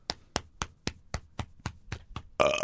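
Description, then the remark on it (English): About nine steady, evenly spaced pats thump on a person's back to help them burp, fairly loud, followed at the very end by a brief, raspy burp. “Can you burp me real yeah. quick?”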